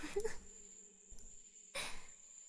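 A steady, high-pitched cicada drone runs continuously in the background, fairly faint, with a few brief breathy rustles and knocks popping up over it.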